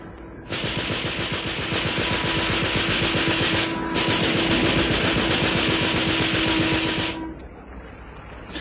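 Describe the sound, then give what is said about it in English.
A Vickers K machine gun mounted in the bows of a Coast Guard launch fires rapid, sustained bursts for about seven seconds with one brief break midway, the harsh clatter riding over a steady droning hum. “They've got a Vickers K machine gun mounted in the bows of their launch.”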